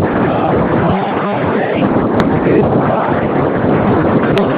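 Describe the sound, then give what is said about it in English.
Strong, cold wind roars and buffets continuously across the microphone on a mountain summit at the top of Oklahoma, a dense, rumbling rush with a couple of brief clicks, loud throughout. “It's pretty cold up here right now and windy.”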